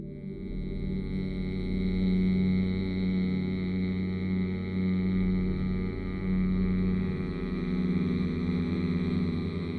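A steady, sustained hum of 'mm' made with the lips gently closed while breathing out through the nose after a deep breath in, low-pitched and continuous for about ten seconds with a faint wavering in level and no speech.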